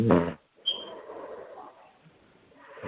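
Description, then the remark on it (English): A dog snoring: a single drawn-out, raspy breath that rumbles for about a second and then fades into quiet breathing, preceded by a short soft burst of noise. “He's snoring.”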